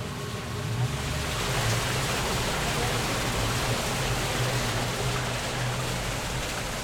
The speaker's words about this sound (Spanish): Si alcanzas a escuchar, o sea, todo. De hecho está frío, se siente que está el agua corriendo. Ese tubo es el que se conecta a las tuberías subterráneas, que aunque no los vemos, son las que distribuyen el agua a las casas.